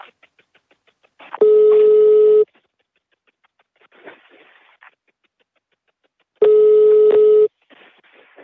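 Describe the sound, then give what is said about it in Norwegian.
A telephone rings twice with no answer as a call is placed to a man who does not pick up, each steady electronic tone lasting about a second, separated by a few seconds of quiet with faint rustling and low background noise between. “Mannen svarer ikke når de ringer.”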